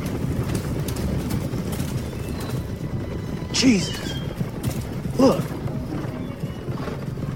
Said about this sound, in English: Do you hear that rumble? Shit, sounds like... horses.